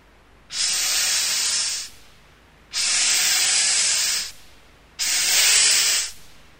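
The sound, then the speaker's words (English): A snake hisses three times, each a steady, breathy hiss lasting over a second with short pauses between. The sound is fairly loud, with no voices. “It's a snake.”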